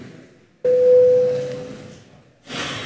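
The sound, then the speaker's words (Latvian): A single steady electronic bell tone sounds abruptly in a parliament chamber, calling a vote on a bill in its second reading; it holds for under a second over a low murmuring room hum, then the hall noise continues and a rustle of movement follows. “Paldies, lūdzu zvanu.”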